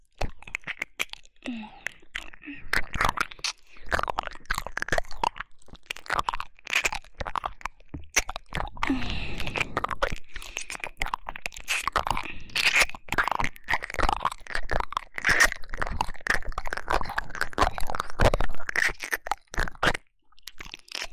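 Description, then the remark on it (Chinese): Continuous crunchy chewing for about twenty seconds, with dense, irregular crackling bites and crunches following one another closely at a steady, fairly loud level, no talking. “乖乖的陪我吃吧。”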